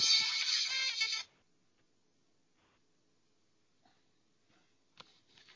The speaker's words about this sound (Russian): Вам опять звонят, небось.